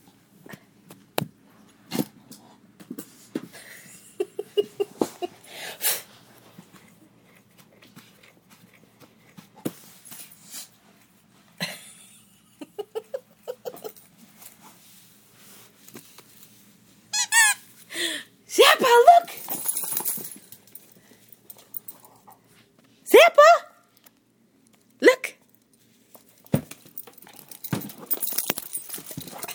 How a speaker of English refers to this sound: Toys. We've got a playful dog on our hands. Give it to me.